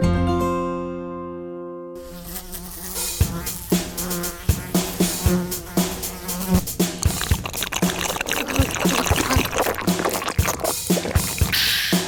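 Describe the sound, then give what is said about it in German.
A steady fly-like buzz drones alone for about two seconds, then bouncy music with sharp percussion kicks in and carries on, with buzzing textures mixed into the arrangement. “In unserer Küche wohnt eine freche Fliege und ich bin sauer, weil ich sie nicht kriege.”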